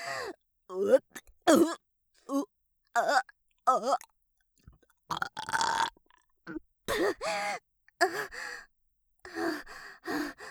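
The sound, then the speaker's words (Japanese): A loud, rough burp comes up in the middle of a string of short vocal noises, breathy gasps and grunts from a single voice, with brief pauses between them. “いやだわ、ゲップなんてはしたない。”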